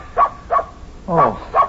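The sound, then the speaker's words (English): A dog barks four times in two quick pairs, sharp and fairly loud, with short pauses between the barks and no one talking over them. “Oh, it's only your dog, Bunny.”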